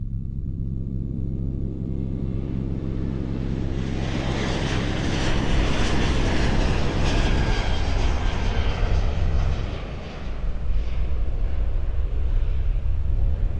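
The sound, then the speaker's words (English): A steady, loud airplane engine drone fills the space, a continuous low rumble with a broad whooshing hiss on top, like sitting inside a cabin in flight. No one speaks. “I want you to picture yourself on a plane.”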